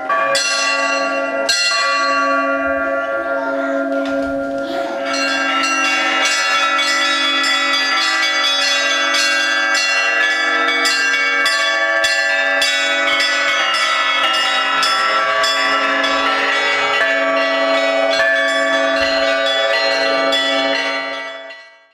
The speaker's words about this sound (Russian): Самые маленькие колокольчики называются зазвоны. Они созывают народ в церковь, говорят: придите к нам, придите к нам. Большие подзывают, они называются подзвоны, они помогают маленькие. А самый большой колокол называется благовестник.